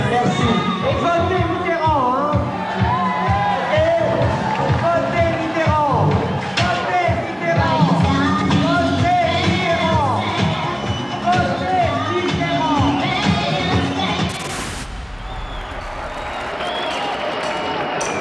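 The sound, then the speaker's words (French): A large audience at the Palace in France fills the air with steady applause while many voices jeer and boo over it, loud and dense throughout, dropping to a thinner crowd murmur near the end. “Et depuis la piste, la salle se divise entre applaudissements et huées.”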